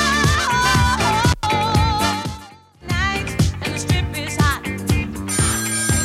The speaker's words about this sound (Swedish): Åh, nu ringer igen här.